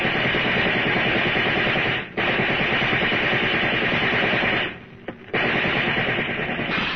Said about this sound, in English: Get down low, babe. Those cops are using riot guns.